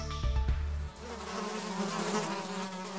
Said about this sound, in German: Sie brummen und summen, fliegen und krabbeln, leben in Staaten oder ganz allein. Insekten sind ungewöhnliche und sehr vielfältige Lebewesen.